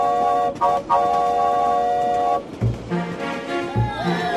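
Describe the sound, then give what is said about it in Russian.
A loud, piercing steam locomotive whistle shrieks on a steady pitch, cut briefly twice before holding for about two seconds, then gives way to low thumps and a jumble of softer sounds. “Но его заглушил пронзительный свисток паровоза.”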